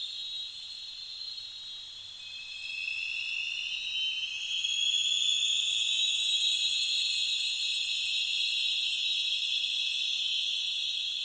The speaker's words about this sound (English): Also, it was loud enough that you can hear the sonar is essentially reflecting, echoing back and forth over the canyon walls.